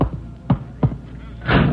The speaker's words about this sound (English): Why do you bolt the door?